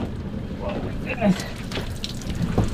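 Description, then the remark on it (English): Water drips and splashes in a few irregular patters from a heavy, egg-coated branch being hoisted into a boat, over a steady rumbling outdoor background like a boat idling on open water. “hoists the dripping branch into the boat.”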